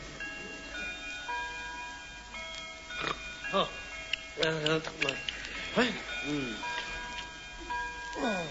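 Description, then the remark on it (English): A clock ticks steadily and then strikes twelve, its bell tones ringing out in a series of resonant chimes that hang in the air, with some vocal sounds mixed in. “Oh, 12 o'clock. It's Monday at last.”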